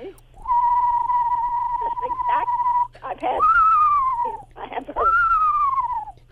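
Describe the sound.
A person imitates the call of an eastern screech owl, a tiny owl, whistling a long, level tone followed by two shorter, descending whinny-like whistles, clear with no other sounds.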